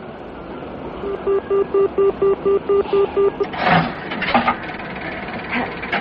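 A train travelling back to London rumbles steadily along the rails. A run of about nine evenly spaced, tonal pulses rings out over the rumble, followed by a few louder clattering knocks and bumps.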